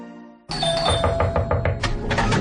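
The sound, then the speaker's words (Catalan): A doorbell chimes a ding-dong, its tone ringing out and fading before a loud, busy blare of rhythmic, bursting noise takes over and nearly drowns it. “¿no oyes el timbre?”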